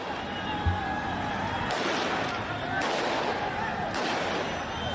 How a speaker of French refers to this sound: Oui, dès mercredi, l'agence Reuters fait état de 3 morts après un rassemblement à Jalalabad, à l'est de l'Afghanistan. Les coups de feu tirés par les talibans pour disperser la foule résonnent encore sur les réseaux sociaux.